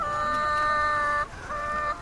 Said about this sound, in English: And the chickens were making the most unearthly, unchicken-like mewling sounds.